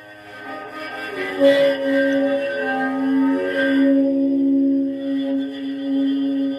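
A homemade junk cello squeals in a long, sustained bowed tone, holding a steady low-mid pitch while harsh upper overtones waver and screech above it, loud and unbroken with no voices.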